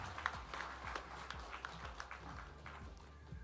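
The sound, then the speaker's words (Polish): Dense, steady crowd applause with many overlapping claps forming a continuous crackling wash, sustained at an even loudness throughout with a low hum underneath. The applause is for the team from the Zespół Szkół Ekonomicznych school in Dębica. “Wielkie brawa.”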